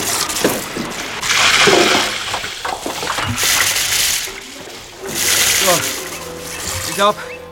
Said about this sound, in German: Er kletterte durch eine Luke an Deck, lief zur Reling, warf den Eimer über Bord, schöpfte Wasser und schüttete dann die ganze Ladung in einem Schwall durch die Luke. Diese Prozedur wiederholte er, bis das Feuer gelöscht war.